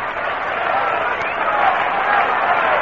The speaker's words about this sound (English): Enthusiastic crowd backing up the Mets now, hoping they can get it going against Drysdale, the winningest pitcher in Major League Ball.